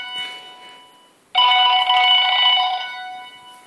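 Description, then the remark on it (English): A telephone rings loudly, a sustained electronic trill lasting about a second and a half, following a quieter tone that fades out beforehand. No one speaks. “Oops, that'll be the phone.”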